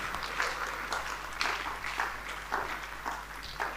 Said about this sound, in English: I thought it's a good place to put your hands together for the Lord.